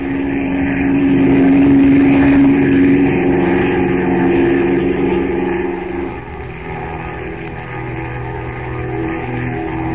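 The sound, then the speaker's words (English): A propeller plane engine roars loudly in a steady, throbbing drone as the plane takes off from a river with two rope ladders dangling below it, dropping slightly in pitch and volume about two thirds of the way through before holding on. No one speaks. “Then the plane roars up from the river, the two ladders dangling below it, and heads for the Temple of Ashtar.”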